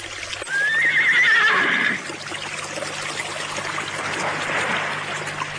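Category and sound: animal, horse neighing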